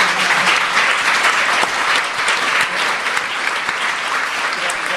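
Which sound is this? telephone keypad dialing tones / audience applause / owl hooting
audience applause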